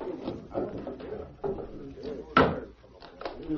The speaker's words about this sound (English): Should I unbar the door? Yeah, we'll see what he wants.